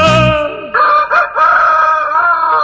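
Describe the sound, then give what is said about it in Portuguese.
A rooster crows once in a long, loud, drawn-out call that rises, wavers and holds for a few seconds, heard clearly with no voices. “O galo é quem vai cantar.”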